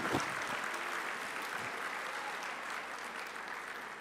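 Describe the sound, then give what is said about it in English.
A crowd applauds steadily for several seconds, a dense, even wash of clapping from many hands with no voices standing out. “So inshallah ta'ala, let's all give them a round of applause and appreciate what they're doing for us.”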